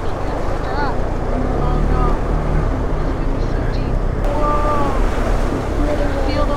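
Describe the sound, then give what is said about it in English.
A rented KTM motorcycle engine drones steadily as it rides through flood water in a line of traffic, while churning water rushes and splashes loudly and continuously around it, with voices faintly audible over the noise. “We're going to get stuck behind a stopped car, and then our motorcycle is just going to fill up with water.”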